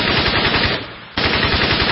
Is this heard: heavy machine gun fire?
yes